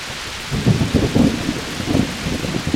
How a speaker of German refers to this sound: Blitz und Donner lassen die Menschen erzittern. Schwere Hagelkörner zerstören das Land. Diese Plage ist eine verheerende Unwetterkatastrophe.